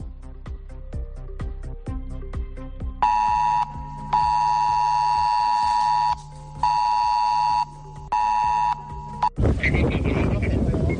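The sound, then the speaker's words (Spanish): An emergency flood alert from the October 29 flood blares in loud, sustained electronic beeps, a steady high tone repeating in long bursts with short gaps, preceded by rhythmic clicking and followed by a burst of noisy rumble. “Ese pitido terrorífico difícil de olvidar.”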